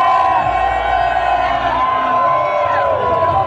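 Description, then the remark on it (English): A large concert crowd at Dream Beach screams and cheers together on a count of three, a loud, sustained roar, many high voices overlapping in a continuous wall of sound without pause. “On the count of three, raise your hands and scream.”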